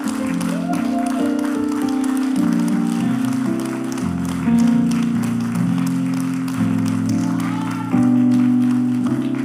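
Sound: audience standing and applauding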